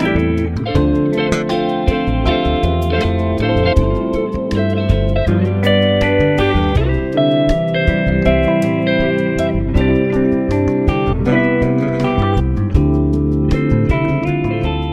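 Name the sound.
music interlude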